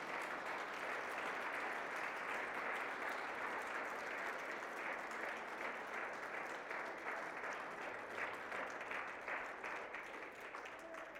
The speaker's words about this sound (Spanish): ¿Por qué no le damos un fuerte aplauso a Dios?